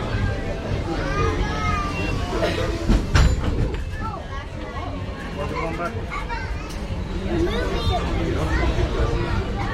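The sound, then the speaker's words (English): A Disneyland Railroad passenger train at Disneyland rumbles along steadily beneath lively crowd chatter and children's voices, with a sharp metallic clank about a third of the way through. “I'd like to welcome you aboard the Disneyland Railroad.”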